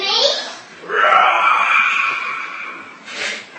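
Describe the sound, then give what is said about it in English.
A voice imitates a lion's roar: a drawn-out, raspy, moaning growl that swells loud after a short breathy onset, holds for about two seconds, then trails off with a brief breathy gasp. “And then suddenly there was a loud lion's roar.”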